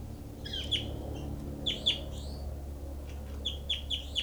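Bird 06 calls in its cell in short bursts of high, chirpy notes, three or four clusters of sharp tweets over a steady low hum, with no voices.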